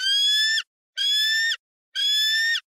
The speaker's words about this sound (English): Baby bald eagle. There you go. It might be a baby, but it is a bald eagle.